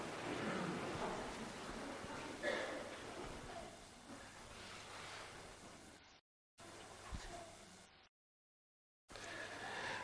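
Water is poured over a baby being baptized, splashing in a steady, hissing stream with short bursts of louder trickling. The sound cuts out abruptly twice before resuming.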